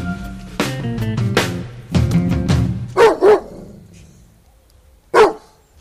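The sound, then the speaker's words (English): Deep, fierce Doberman-style barks, seemingly imitated by a human voice: a cluster of loud, drawn-out woofs, then two short sharp barks and one final bark after a pause. “Wrong, Dave. It was a Doberman, of course.”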